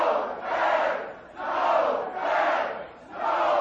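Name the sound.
crowd noise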